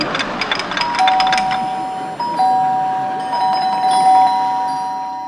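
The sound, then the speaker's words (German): An electric doorbell rings loudly with a sustained tonal buzz, sounding twice with a short break between, preceded by a flurry of bright chiming strikes; no one speaks. “Es läutet.”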